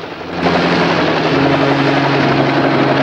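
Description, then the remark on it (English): A helicopter descends lower over a rocky outcrop on a plateau. Its steady rotor and engine drone fills the scene with broad, unbroken noise that swells slightly at the start and then holds loud and constant. “flies the helicopter lower still.”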